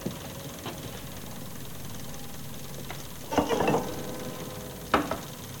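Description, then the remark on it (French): A steady, low engine hum drones on without a break, joined by a few short clicks and a brief burst of rustling patter partway through. “Petite cellule, pédale, moteur continue.”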